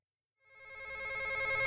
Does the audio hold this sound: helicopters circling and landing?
no